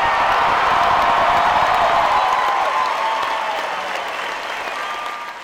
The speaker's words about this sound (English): He spoke without notes or a teleprompter, leaning in hard on issues like immigration, guns, and gender, frequently interrupted by cheers so loud, my recorder nearly spiked.